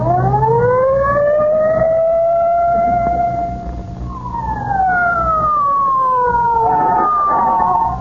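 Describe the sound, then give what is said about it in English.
A police squad car siren wails loudly, rising slowly to a long high tone and then sliding back down, over a low engine rumble, as the squad car hurries to 79 Whistle Vista. No one speaks. “Get in the squad car.”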